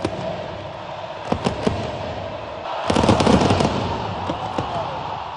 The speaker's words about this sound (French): Alors c'était la totale, hein, des feux d'artifice, des chants entonnés par 83 000 supporters dans le stade de Buenos Aires. C'était juste avant une rencontre entre l'Argentine et le Panama.